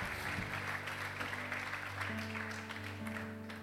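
A crowd at a worship gathering claps steadily for several seconds for a man being honored, a dense, even wash of applause with a faint sustained musical hum running underneath.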